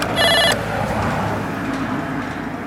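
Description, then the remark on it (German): A doorbell at a cast-iron gate rings once in a short, bright electronic burst of about half a second, then only a steady low rumble of background noise remains. “Okay, wir haben geklingelt, aber gerade tut sich nichts hier.”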